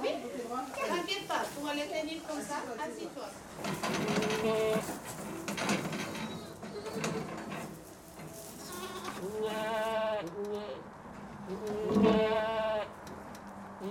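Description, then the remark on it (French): A herd of goats on a farm bleats loudly, many wavering calls overlapping one after another in a continuous chorus, with mechanical rattling and clatter in the background. “Alors sur notre ferme, on s'est limité à une bonne cinquantaine de chèvres, 50-60 chèvres maximum en lactation.”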